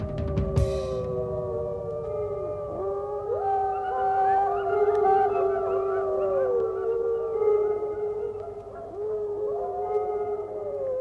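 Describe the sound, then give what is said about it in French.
Several wolves howl together in a sustained chorus, long wavering tones rising and falling and overlapping for about eleven seconds, steady in volume, with no talking. “Et ce qui est extraordinaire, c'est que le loup est monogame.”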